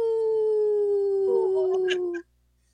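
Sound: people imitating wolf howls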